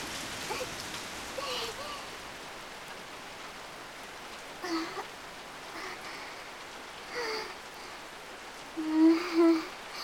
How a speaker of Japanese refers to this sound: この公園の休憩所で雨宿りしよう。